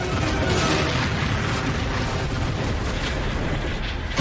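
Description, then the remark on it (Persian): A deep, sustained rumbling boom fills the whole stretch, loud and dense with low-end roar: a torpedo exploding underwater into the hull of the ship Nereus. No voices are heard. “اونا نریوس رو زدن. اونا کدوم گوریان استفاد؟ افسر عملیات، مسیر اژدر رو پیدا کن.”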